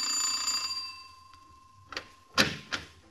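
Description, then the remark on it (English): A doorbell at a very large house rings with a bright, sustained metallic tone that slowly fades, followed by three sharp clacks, like a door latch or footsteps, in an otherwise quiet space. “And as I'm ringing the bell, I'm already spending the C-note.”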